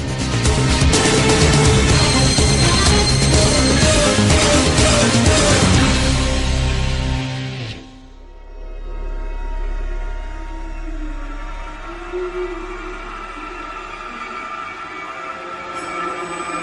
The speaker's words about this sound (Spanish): no ha sido aposta, pero está sonando el tema llamado North of the Wall, el norte del muro